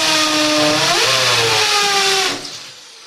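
A loud electric drill whirs steadily as an electrician drills, dowels and screws, its motor pitch climbing briefly before holding, then cuts off abruptly after a couple of seconds, leaving faint background sound.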